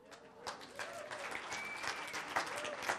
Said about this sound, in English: No, why are y'all clapping? Because I don't get it all the time?